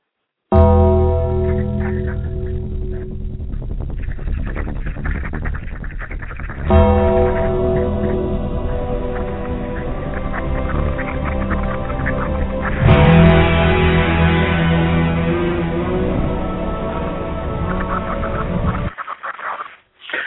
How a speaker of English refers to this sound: Paul Bearer, William Moody, Percy Pringle III. As one wrestling fan and other wrestling fans around the world, we play these bells for you.